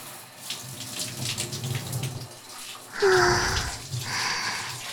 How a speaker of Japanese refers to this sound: 残った泡はシャワーで流していきます。